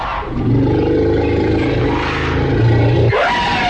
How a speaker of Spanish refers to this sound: ¡Uy! ¡Vino el señor elefante a destruirlo todo!